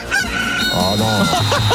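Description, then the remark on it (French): A rooster crows a loud cock-a-doodle-doo, one drawn-out call with rising and falling notes that fills the short moment on its own, the cocorico alert signal of an RMC radio contest. “dès que vous entendez le cocorico, vous avez 5 minutes en envoyant euro par SMS au 7”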